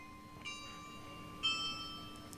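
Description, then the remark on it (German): Two bell strikes from a carillon in the town of Gütersloh ring out about a second apart, each tone lingering and fading softly over a low background hum, with no one speaking. “Ich hoffe, ihr hörtet das Glockenspiel in Gütersloh hier im Hintergrund.”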